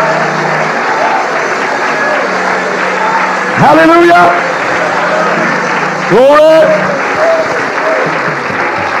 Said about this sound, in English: Just while you're clapping your hands, lift your voice and praise Him out loud. All over this building, come on, clap your hands, all your people. While you clap your hands, open your mouth and shout unto God with a voice of triumph.